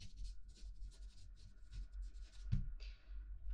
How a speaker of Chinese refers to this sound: 好的，我记下来了，拿笔记了。